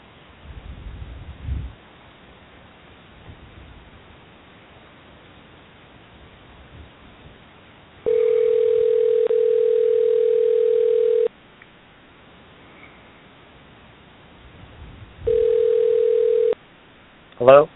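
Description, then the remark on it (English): Telephone ringback over a muffled line: two long, steady mid-pitched rings separated by a pause of faint hiss, with brief rumbling noises before the first ring and a short burst after the second. A call is being placed to Nelson Piquet Jr. “And with that, I think I'm going to try and call Nelson Piquet Jr.”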